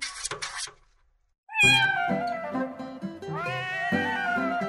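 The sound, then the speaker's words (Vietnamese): A tabby cat scratches at a door from outside, wanting in from the cold: a brief scratchy rustle, a pause, then two long, loud, wavering meows that rise and fall in pitch, with no talking. “À, con mướp đã về.”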